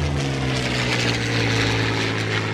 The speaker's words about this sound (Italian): Accade anche un fatto strano. Un aeroplano passa in volo molto vicino alle tribune del Monumental, causando un moto di inquietudine.